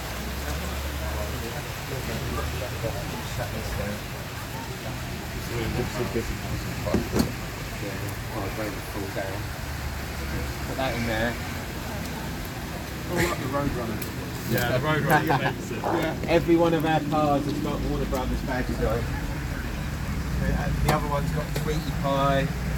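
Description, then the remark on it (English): A car engine runs steadily on a mild day in West Sussex, a low continuous idling rumble throughout, while people talk over it now and then, more busily toward the end. “And we're just going to run the car quickly, because people want to hear it.”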